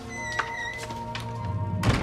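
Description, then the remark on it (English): A front door shuts with a single heavy thunk near the end as a woman heads out through it, preceded by a few softer knocks and clicks, all over a steady low humming tonal backdrop. “She kisses him tenderly on the cheek, then heads for the front door.”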